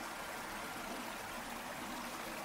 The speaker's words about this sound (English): The cave's path has led you to an enchanting revelation. You've entered an opening to a majestic waterfall.